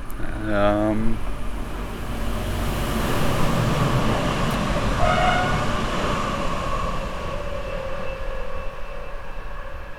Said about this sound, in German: Ja, was man gerade gehört hat, das war der Regionalexpress und so den Nachhall, das hat mich auch immer so fasziniert, so dass der Zug schon ein bisschen weiter weg war, aber man hat eigentlich immer noch die Gleise so gehört, wie sie sind